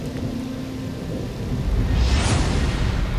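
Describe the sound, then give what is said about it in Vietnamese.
Steady light, drizzling rain hisses outside, joined partway through by a deep rumble that swells and lingers, like thunder rolling under the downpour. No one speaks. “Hôm nay do quá mệt mỏi và căng thẳng, vừa nằm xuống giường nệm êm ái, cộng với tiếng mưa rả rích mát mẻ bên ngoài, Vui dần chìm vào giấc ngủ.”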